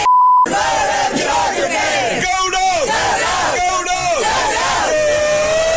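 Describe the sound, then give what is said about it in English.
A short electronic beep, then a large crowd of Georgia fans on the Dog Nation cruise loudly chanting, calling the dogs with repeated rising-and-falling whooping bursts in a steady rhythm, the roar of the crowd continuous underneath. “a pretty clever twist there on calling the dogs.”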